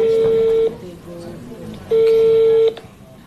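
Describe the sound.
Two steady, fairly loud telephone tones as a call is placed to a company's phone number, each lasting under a second with a pause between them, over a low murmur of background noise and faint voices.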